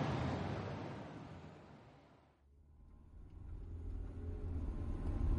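A car engine rumbles steadily, easing off briefly mid-clip before building back up into a low, sustained drone as Len drives his car to San Francisco, fairly loud, with no voices.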